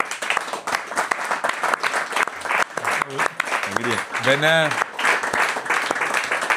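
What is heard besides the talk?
audience applause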